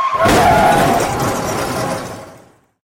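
A short, loud car crash sound effect with a brief tire squeal from the car skidding at the start. The burst of shattering noise fades out over a couple of seconds, with no voices.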